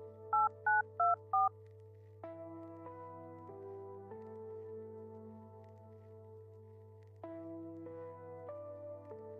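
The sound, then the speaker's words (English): Four quick, evenly spaced phone keypad beeps ring out clearly over a low steady hum, followed by a stretch of sustained musical tones with no talking. “Is he on a phone? He's not supposed to have a phone.”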